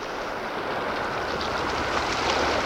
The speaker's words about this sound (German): Hört ihr das? Ein Motorboot.